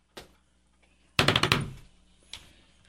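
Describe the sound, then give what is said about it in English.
A single sharp bang, then a quick burst of four or five loud, rapid thumps against a hard surface, followed by one last softer knock; no voices. “Or bang on the counter, whatever.”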